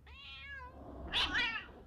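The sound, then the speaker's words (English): A cat meows twice, a drawn-out mew followed by a louder, more strained yowl, with no voices around it. “maybe you need to check on the cats.”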